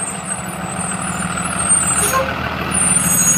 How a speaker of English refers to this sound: Morning! School bus. must be early.